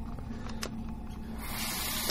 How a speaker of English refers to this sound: Let's turn on the water to hide the sound.